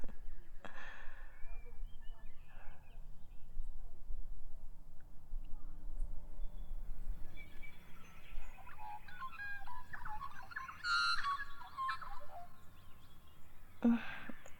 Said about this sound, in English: That's a magpie. Yes, the ones that swoop and attack.